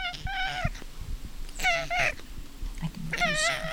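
A cat named Paris at Lazy Cat Gardens lets out three drawn-out, wavering meows while being petted, each rising and bending in pitch, with soft rustling and low rumbling noise beneath.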